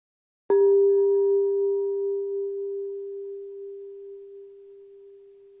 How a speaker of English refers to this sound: Now a bell will ring us into our time of reflection, and then a bell will bring us back.